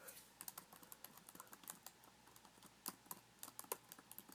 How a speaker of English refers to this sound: Click, clack, go the keys.